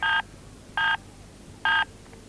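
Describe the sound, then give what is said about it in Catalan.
Three short electronic beeps from a warehouse's answering machine, evenly spaced and fairly loud, each a clean tonal burst with quiet gaps between them and no voices. “Uau, tia, has de parlar sempre després de totes les senyals. Recorda després dels pitos.”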